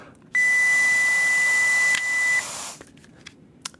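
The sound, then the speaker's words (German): A breath alcohol tester gives a steady, high-pitched beep for about two seconds while someone blows hard into its tube, a loud breathy rush under the tone. The beep stops and the hiss fades, with no talking. “einen Alkoholtester organisiert. Ist okay. Ich mache jetzt mal schnell den Test, einfach so hier.”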